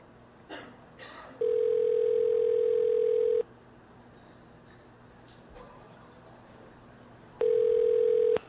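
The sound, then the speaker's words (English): A couple of soft handset clicks, then a steady electronic telephone tone hums for about two seconds, falls silent, and returns briefly near the end as someone dials a 917 number. Clear, with no voices. “Okay, this person has a 917 number.”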